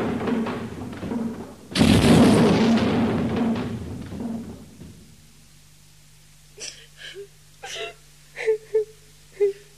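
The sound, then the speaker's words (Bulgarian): A person wails and sobs loudly, a broad anguished cry that trails off into quieter whimpering, followed by a few short, breathy sobbing gasps over a low steady hum. “Кърпичке, защо плачеш?”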